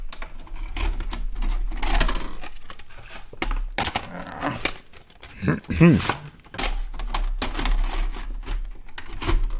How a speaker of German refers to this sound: Aber apropos Kassette, ich muss jetzt die Kassette wechseln, sonst können wir mit dem nächsten Film nicht anfangen.